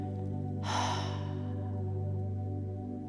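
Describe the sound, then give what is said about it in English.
A single deep, audible breath during a guided breathing exercise, breathing in through the nose and out through the mouth, a rushing sigh-like exhale early on that fades, set over a steady, sustained low hum of ambient music. No talking. “Breathing in through the nose and out through the mouth.”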